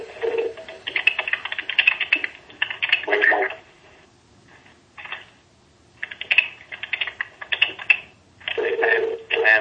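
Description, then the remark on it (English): Repeated bursts of electronic conference-call tones as individual people ring in and join the line, sounding in clusters separated by short pauses, moderately loud with a slightly crackly, phone-line quality. “That is individual people ringing in.”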